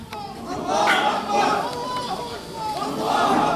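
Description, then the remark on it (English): A crowd of young Palestinian men chant and call out together in loud, overlapping voices, praising God as they carry a corpse wrapped in black plastic on a stretcher up an alley, their shouted praise rising and falling in waves without a break. “Young Palestinian men praising God carried this corpse, wrapped in black plastic, on a stretcher up the alley.”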